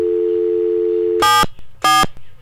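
A steady, even telephone dial tone hums for about a second from a phone held in hand just before a call is made, then cuts off and two loud, buzzy electronic tone bursts follow in quick succession. No one speaks.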